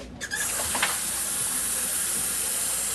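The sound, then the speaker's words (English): A kitchen tap runs in a steady, hissing stream, with a brief clatter near the start before the water settles into an even rush. No one speaks. “We have running water.”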